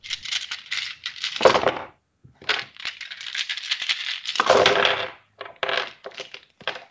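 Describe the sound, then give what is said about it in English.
Dice clatter and rattle repeatedly in quick, bright bursts, several rolls tumbling and clicking against a hard surface with short pauses between them, with no talking over the sound. “I mean, we bought these lovely dice,”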